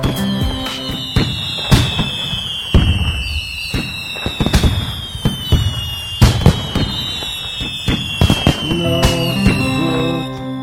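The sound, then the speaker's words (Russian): A dense, continuous barrage of fireworks and firecrackers goes off, with sharp irregular bangs, crackling bursts and high whistling rockets sweeping overhead throughout. “Различных вспышек, фейерверков и петард взрывов.”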